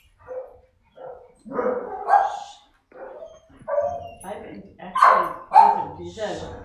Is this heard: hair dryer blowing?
no